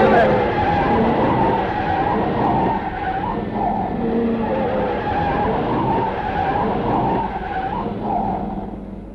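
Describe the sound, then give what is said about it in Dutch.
A car brakes hard and skids just after passing under a viaduct, tires screeching and scrubbing loudly for several seconds as it spins out, the engine droning underneath and a voice speaking over the noise. “Ja, remmen, remmen, remmen. Ah, dat draait een heleboel.”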